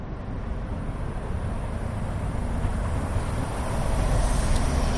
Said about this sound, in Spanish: Caminar por Madrid es caminar entre el silencio. Solo interrumpe pues, algún trabajo y el leve sonido del tráfico.